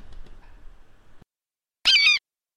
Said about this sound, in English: How did a bird get in here? I have no idea. Yeah, it's strange. Although it's trapped in the fan.